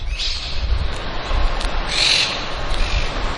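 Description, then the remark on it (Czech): Ubiquitous parrots screech in harsh, high bursts, one near the start and a louder one midway, in the garden around a university residence college building in Rome, Italy, over a steady low rumble of city noise. “Při příchodu do areálu koleje k úctyhodné budově obklopené krásnou zahradou překryje ruch velkoměsta křik všudy přítomných papoušků.”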